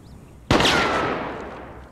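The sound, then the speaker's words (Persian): A single loud, sharp gunshot at tin can targets, five targets with five bullets, cracks out after a brief quiet moment, followed by a long echoing decay that slowly fades. No one speaks. “5 تا هدف و 5 تا تیر.”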